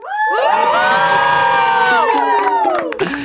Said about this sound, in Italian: Qua serviva un urlo fortissimo.